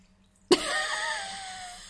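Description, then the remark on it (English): After a brief hush, a sharp knock gives way to a steady trickle of whisky poured from a miniature bottle into a glass, thinning gradually as the pour tails off. No one speaks. “So, anyway, you can pour now.”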